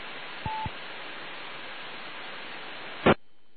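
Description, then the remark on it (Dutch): Steady radio static hisses throughout a weak, noisy transmission on an amateur radio net, with a brief beep near the start and a sharp crackling burst before the hiss suddenly drops away. “Nee, die is er niet, dus dat valt wat in de ruis weg bij mij.”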